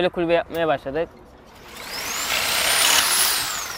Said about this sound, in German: Mit einer elektrischen Säge bearbeitet Josh Kunjetin Kaya die Palette weiter.